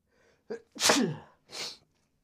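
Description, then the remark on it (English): A quick gasping inhale, then one loud sneeze with a harsh burst of air from a person with a slight cold, followed by a shorter breathy exhale or sniff. No talking. “I gotta sneeze.”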